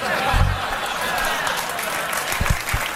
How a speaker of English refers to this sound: Whenever, I have to cut you short on that applause.